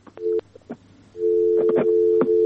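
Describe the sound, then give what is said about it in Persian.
A telephone line tone after a listener's call to a radio program dropped: a short steady beep, a pause, then a long sustained electronic tone with a few clicks and noise bursts over it. “تلفن تماس از یک قطع شد.”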